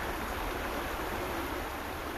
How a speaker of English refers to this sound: all sorts of levels of sound, so it's got the sort of whooshy kind of major sound, dominant sound, and then just every now and again you hear a sort of look, loom, which is where it must be going around a rock or something and creating little pools.